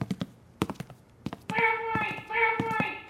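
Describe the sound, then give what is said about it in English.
A person imitates a bobwhite quail call with two drawn-out, tuneful phrases, fairly loud, following a few light taps and knocks. “Is that supposed to be a Bob White bird call?”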